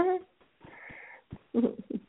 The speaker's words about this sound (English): My nose suddenly starts sniffing and running, so I don't know if you can hear me sniffing. I just wanted to apologize for that.